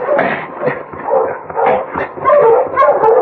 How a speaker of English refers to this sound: stop that dog, dear.